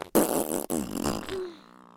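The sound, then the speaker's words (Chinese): A loud fart from a woman under the bed covers sputters for about a second and a half, breaking briefly twice before trailing off into a thinner, higher squeak. No voices are heard. “老公，我又要放屁了。”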